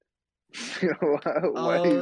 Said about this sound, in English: why do you gasp for air, bro?